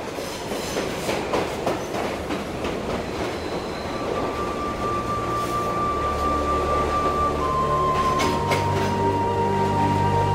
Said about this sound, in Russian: Было 3 часа дня, когда поезд остановился на последней станции.